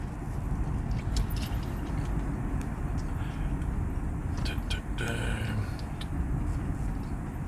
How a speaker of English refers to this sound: And I'm also trying to merge into traffic, so bear with me. Safety first.